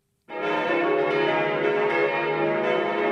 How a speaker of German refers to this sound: Das oberbayerische Waldkraiburg zu Pfingsten. 12 Bronzeglocken der katholischen Kirche Christkönig läuten zur Messe.